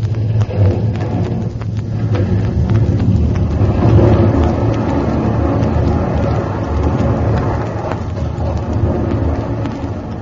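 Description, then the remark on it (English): A good 30 feet of an island's cliff breaks away and crashes into the ocean: a loud, deep rumbling roar with churning, crackling debris that swells around the middle and keeps thundering to the end. “A good 30 feet of the island breaking off and crashing into the ocean.”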